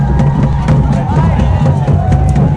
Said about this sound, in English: Someone has climbed up onto a pole with a sign that says "Revolution, no WEF." That's what the crowd is cheering about.